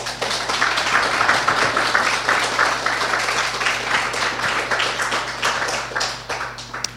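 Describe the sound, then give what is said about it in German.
An audience applauds two speakers at the end of a talk, steadily for several seconds, a dense wash of many hands clapping at a fairly loud, even level before tapering slightly at the end. “Ich glaube, die beiden haben sich mal einen Applaus verdient.”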